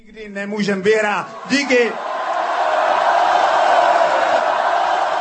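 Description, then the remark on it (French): A few loud, drawn-out shouts ring out over a crowd, then a steady roar of cheering voices continues, broad and unbroken, to the end, as the crowd and players celebrate a Czech team victory. “Bref, on l'aura compris, et la foule et les joueurs ont célébré cette victoire tchèque dans la bonne humeur.”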